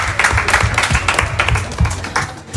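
An audience applauds a presenter at the end of his last segment before summer, with steady, loud clapping, a dense wash of many hands with a few sharper individual claps standing out, lasting a few seconds without any talking.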